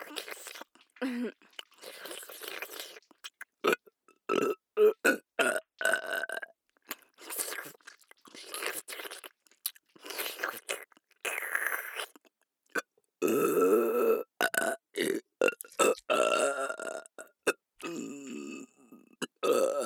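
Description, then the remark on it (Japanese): A run of deliberate, forced burps, fairly loud, in short choppy bursts and then one long, drawn-out gurgling belch near the end, with wet mouth sounds in between. “一番エロいゲップでベロ中。”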